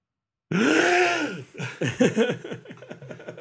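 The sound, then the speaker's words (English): A strained, croaky attempt at a sharp inhaled gasp, held for about a second with a rising and falling pitch, then breaking into choppy, breathy laughter. “You did that inhale gasp, which I have never been physically capable of doing.”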